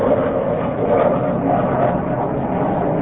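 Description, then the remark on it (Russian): A steady, low roaring drone of an airplane passing overhead, a broad rumbling noise that holds constant and fairly loud throughout without any voices. “Ведь сейчас, может, самолет пролетит.”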